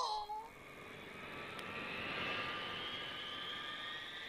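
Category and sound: vehicle, airplane engine roaring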